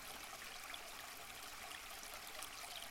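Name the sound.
water trickling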